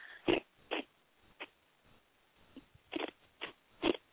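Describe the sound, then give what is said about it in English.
Someone types on a keyboard in sparse, irregular bursts, with about eight sharp clacking taps spaced unevenly over a few seconds and no talking. “Who's typing?”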